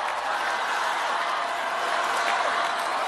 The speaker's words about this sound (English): And let's cross now to Howard University in Washington, D.C., where the defeated U.S. presidential candidate, Kamala Harris, has just approached the lectern and is preparing to speak amid applause from the crowd.